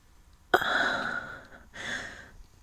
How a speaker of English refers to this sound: My breathing is heavy with excitement and anticipation.